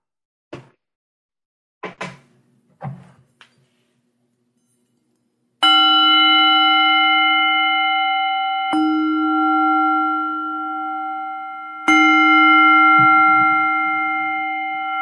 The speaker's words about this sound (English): I'd like to see that bell. It sounds like it's huge. Whoa. It's really a good one.